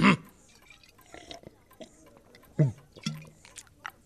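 A woman's changa being sipped: a few short, irregular slurps and gulps, with a throaty, low swallowing sound and faint wet clicks between them, fairly quiet overall.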